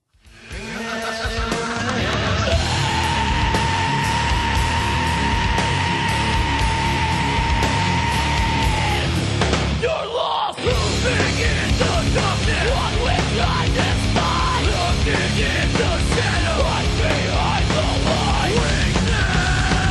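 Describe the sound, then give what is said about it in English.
Loud, dense heavy metal with harsh screamed vocals over distorted guitars and pounding drums, playing continuously with a brief drop near the middle before slamming back in full force. “Screaming punk and heavy metal vocals may sound like they hurt, and often they do.”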